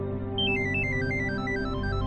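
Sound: phone alarm ringing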